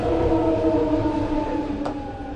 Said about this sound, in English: It's hard to imagine a setting more urban than a Bay Area Rapid Transit or BART station in downtown San Francisco. In the tunnels below Market Street, trains are constantly coming and going.